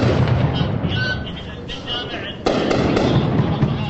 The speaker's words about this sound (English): As government forces moved in on the last IS strongholds in the east last month, an Iraqi helicopter gunship flew overhead, targeting the houses below us.